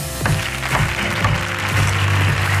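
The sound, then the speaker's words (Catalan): A studio audience on a late-night Catalan show applauds steadily and loudly throughout as a guest is welcomed, the clapping blended with upbeat band music playing at the same time; no one speaks. “Aplaudiments merescuts. Aplaudiments per la seva perícia i la seva valentia.”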